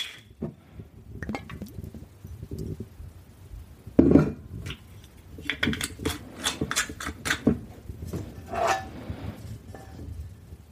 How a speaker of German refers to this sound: So, und dann schnappe ich mir meine Pfanne, stelle sie auf den Herd und mache die erstmal heiß. Kommt noch ein bisschen Öl hinzu. Ich nehme jetzt in dem Fall ein bisschen Olivenöl.